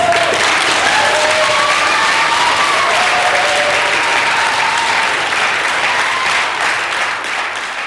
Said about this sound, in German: Ja, liebe Hörerinnen und Hörer, das war ein kleiner Eindruck aus der Gemeinderatsdebatte vom vergangenen Dienstag. Der Applaus, der hier Michael Moos zuteil wurde, kam natürlich vom Publikum, das recht zahlreich dort anwesend war